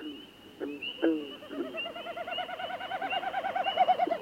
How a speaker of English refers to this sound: Listen. A snipe winnowing overhead as frogs sound off in a moonlit northern marsh.